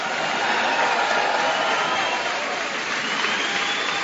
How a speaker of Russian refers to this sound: Аллилуйя! Дадим Богу сильные аплодисменты.